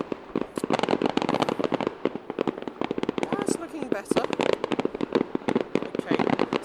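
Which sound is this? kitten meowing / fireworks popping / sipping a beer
fireworks popping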